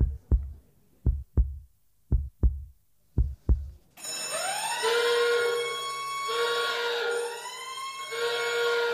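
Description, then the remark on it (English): Six steady heartbeat-like thumps in pairs give way to a loud, sustained alarm bell sound effect ringing with a wavering, siren-like tone that continues to the end. No one speaks. “set the alarm bells ringing across the tech world for days”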